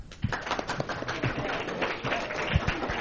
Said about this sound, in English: Very nice, very nice. That's a respectable amount of applause.